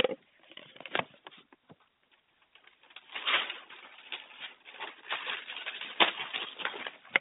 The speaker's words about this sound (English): You probably heard the rustling of pages in the background here. I've got a whole bunch of notes here.